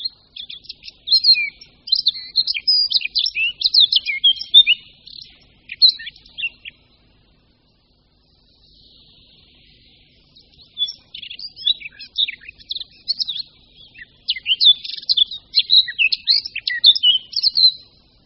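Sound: eurasian blackcap singing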